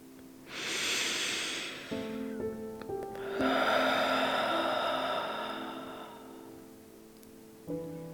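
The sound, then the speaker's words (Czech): A slow, deep breath drawn in through the nose with a soft airy rush, followed by a longer, louder whooshing exhale through the mouth, as a 'dragon breath' breathing exercise, while a gentle sustained musical tone plays quietly underneath. “Hluboký nádech a hluboký výdech.”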